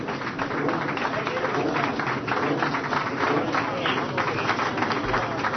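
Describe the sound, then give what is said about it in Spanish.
A live audience claps steadily for a singer's voice for several seconds, a dense, even roar of many hands with crowd voices and cheers mixed in, holding the same loudness throughout. “Bueno, pues mira, vamos a terminar con los aplausos que te han dado en tu voz.”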